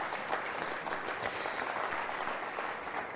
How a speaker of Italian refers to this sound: a cui farei un applauso.